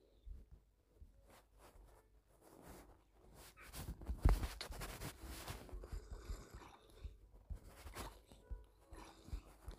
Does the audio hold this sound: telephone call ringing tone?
no